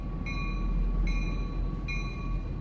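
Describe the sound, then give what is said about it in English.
An MBTA (T) commuter rail train idles at Back Bay Station in Boston with a steady low rumble and a faint constant whine, while a bright tonal chime repeats three times at even intervals. “Radio Boston's Jason Breslow visited the Back Bay T station recently and spoke to commuters about the T's quiet car plan.”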